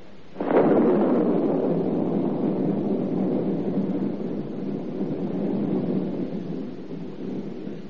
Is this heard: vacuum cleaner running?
no